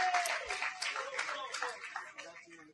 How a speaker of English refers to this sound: So we're going to give him the cool applause as he comes up, all right?